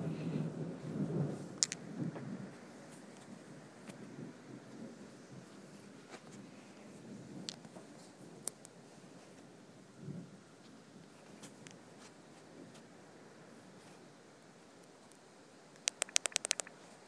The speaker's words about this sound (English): And it's thundering so loud it's shaking my apartment, so.